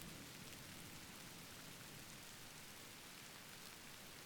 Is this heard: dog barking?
no